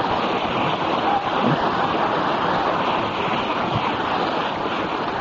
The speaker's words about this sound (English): So we give him a round of applause.